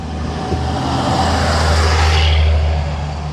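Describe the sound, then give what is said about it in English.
A loud, steady low rumble of heavy truck engines fills the scene, swelling slightly around the middle as large trucks pass with a broad roaring whoosh, no voices present. “Noisy trucks.”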